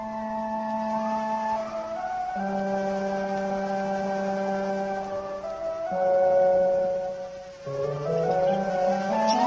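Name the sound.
bee buzzing in flight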